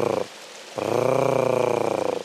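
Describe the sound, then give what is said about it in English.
A female bird's harsh, rolling purr-like call, heard twice: a short burst and then a longer rattling trill of rapid pulses, loud with no talking. “And the female makes a hard case sort of purring noise.”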